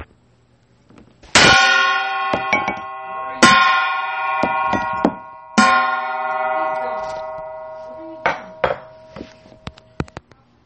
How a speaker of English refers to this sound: That man was a workhouse, hammering red-hot iron to repair tools so that they were as good as new, even better than new.